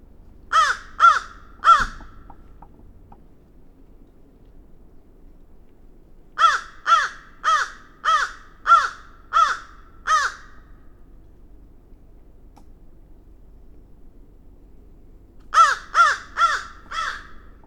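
An American crow caws in three bursts: three quick calls, then a run of six, then four more, each harsh and evenly spaced, loud against a quiet, low background hum.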